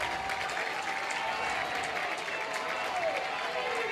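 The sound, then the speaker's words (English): A large stadium crowd at a Crimson Tide game cheers and claps steadily as a man fires up the crowd, a dense wash of applause and voices filling the space at a fairly constant level, with a faint whistle-like tone drifting through. “… firing up the crowd.”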